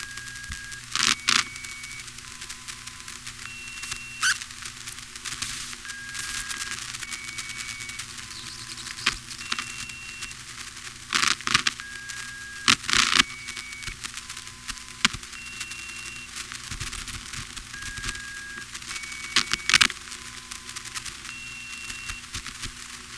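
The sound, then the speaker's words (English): Telephone network tones recorded in Sanford, North Carolina, in March 1977: short, steady beeps at several different pitches repeat in little sequences over a constant hiss, broken up by sharp clicks and bursts of line static. “It's the same tones, although the lowest one from Cabot doesn't come through in Sanford, and they've also got them in the wrong order.”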